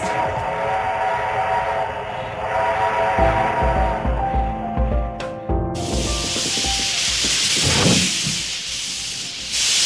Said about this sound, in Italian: È un treno, è il treno a vapore di Rete 1.